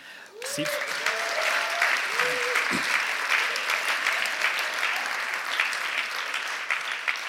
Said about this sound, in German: Und vielleicht könnt ihr ja mal einen richtig fetten Applaus geben.